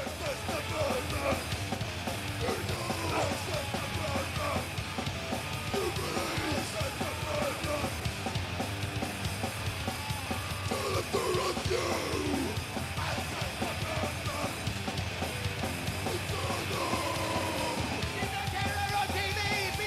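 A loud, dense live band performance at the Brit Awards in 1992, with distorted guitars and pounding drums, a vocalist yelling and shouting harshly over the steady, relentless wall of noise.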